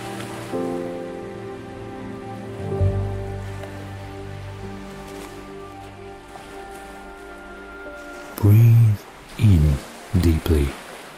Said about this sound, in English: Allow the sound of the waves to calm your mind.